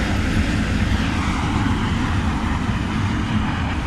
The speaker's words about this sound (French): Je sais pas si on m'entend, mais on est devant un puits géothermal. La vapeur sort directement des entrailles de la terre, ce qui fait que ça vibre, le sol autour de nous vibre, et qu'il y a cet énorme nuage blanc qui sort à haute pression